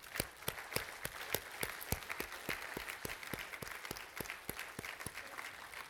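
Men and boys applaud the ladies, especially mothers, steadily, with sharp, regular claps standing out over a continuous wash of lighter clapping that holds an even level throughout.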